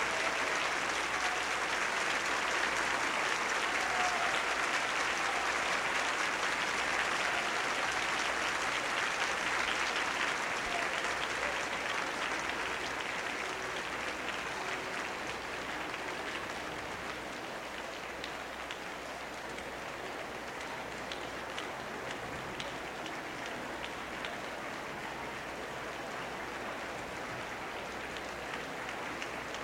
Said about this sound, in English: The rhythmic clapping, once more recalling the soloist, and probably Mr. Reinsdorf.